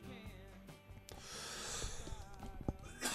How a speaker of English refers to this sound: I'm having, it's a coughing fit. It's not coronavirus related. I promise.